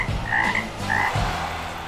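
Frogs croak loudly in a dense, continuous chorus of low throaty calls, with two brighter trilling croaks standing out near the start. No one speaks.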